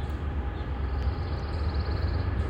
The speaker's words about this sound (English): Can you hear the train?